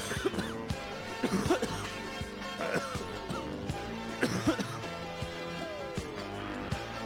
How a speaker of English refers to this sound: Did I hear a baby coughing?